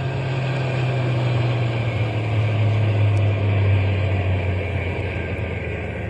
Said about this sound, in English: We'll drive on a little bit and then stop the truck. But keep the motor idling, so we can take off in a hurry if anybody comes along.